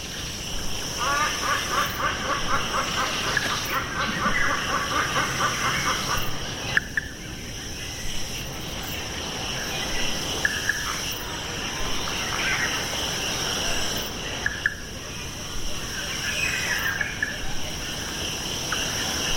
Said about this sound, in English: It is theorized that any communication between them likely occurs through other methods, such as seismic or contact-based vibrations. And hear the sound of seismic frog song from the silent Bale Mountain tree frog.